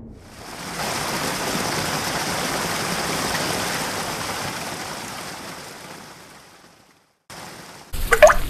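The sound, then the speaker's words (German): Steady rain pours down in a dense, hissing wash that holds for several seconds, then gradually fades away before a short, sharper splash of water at the end. “mach dich fertig zum Regnen.”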